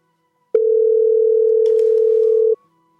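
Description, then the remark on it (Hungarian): A single loud, steady telephone ringing tone from a caller's phone sounds on the phone line for about two seconds, then cuts off abruptly. Only faint background noise accompanies it, and no one speaks. “Nem tudom, hogy van-e valaki a vonalban, akinek csöng a telefonja, akkor legyen szíves letenni és újra hívni.”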